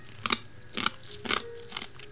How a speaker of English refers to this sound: I hope you don't hear me chewing into these little chips. I know it's rude, but I'm 74.